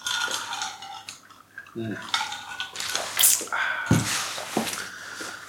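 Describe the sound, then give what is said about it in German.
Glasses clink together a few times in a toast, bright chimes with some clattering, while voices murmur in the background. “Zum Wohl. Cheers. Susanne, cheers.”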